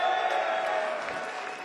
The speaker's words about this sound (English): Let's have a loud round of applause for OT and Dave on sound. Come on, give it up.